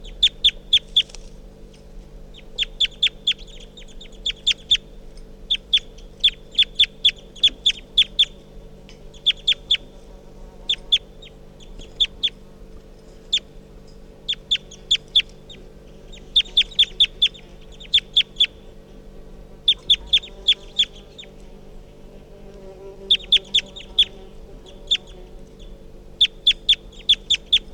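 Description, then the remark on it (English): A bird, recorded as bird 351, calls repeatedly in quick bursts of sharp, high-pitched chirps, grouped in rhythmic clusters over a low, steady background hum, with no voices. “And 3:48 starting to call on the side here.”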